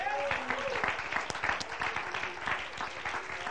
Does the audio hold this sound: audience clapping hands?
yes